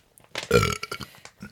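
A loud, throaty burp from a person after eating stir fry rumbles out, lasting about a second with a rough, gravelly texture that trails off into a few smaller guttural catches.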